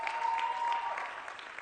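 A church audience bursts into steady applause for the viewers watching their Bible Encounter, a dense, even wash of many hands clapping at moderate loudness, with a faint sustained tone running beneath the first half.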